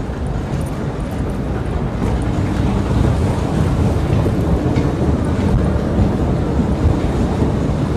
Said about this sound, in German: So Leute, ich bin jetzt beim U-Bahn-Gleis angekommen.